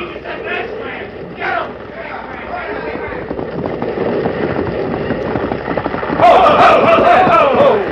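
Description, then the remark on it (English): A bridge collapses as a man rides across on horseback, in a rumbling, chaotic roar that builds steadily, then bursts into a louder crash of splintering near the end, with hoofbeats and shouting voices mixed underneath. “Sheriff, it's falling down, just like he said.”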